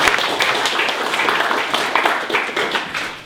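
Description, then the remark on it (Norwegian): An audience applauds steadily for a speaker from the police lawyers, a dense wash of many hands clapping at once, fairly loud, holding for a few seconds without any talking. “Da må vi klappe til han også.”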